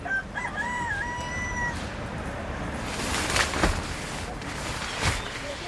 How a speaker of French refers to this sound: L'univers extraordinaire, on entend les perruches, on entend les coqs, tout à l'heure on entendait le cocorico.